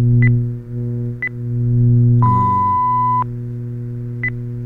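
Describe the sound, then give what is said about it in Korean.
Telephone time-signal beeps from the 116 time announcement service, heard over a connected phone line: short high pips roughly a second apart, then one longer, lower tone held for about a second, all over a steady low line hum with no talking. “이렇게 전화를 연결을 했습니다. 116번에 연결했습니다.”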